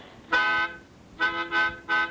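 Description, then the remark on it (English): A bright, brassy trumpet blast rings out loud: one sustained note, a brief pause, then three shorter blasts in quick succession, with no voices. “So let's blow the trumpet of truth, please.”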